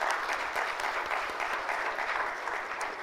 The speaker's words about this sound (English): Let's clap for that because that's exciting.